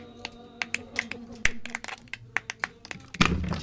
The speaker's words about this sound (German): klopft die schroffen Felswände ab. Ockerfarbene Erde rieselt auf sein Jackett.